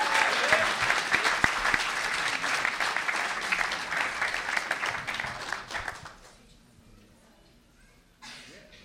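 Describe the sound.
Loud, sustained applause from an audience for a former political prisoner, national co-chair of the Jericho Movement, lasts about six seconds, then fades out quickly, leaving a brief quiet before a voice begins.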